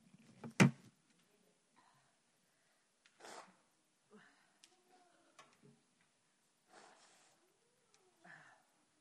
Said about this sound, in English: Let me blow my nose.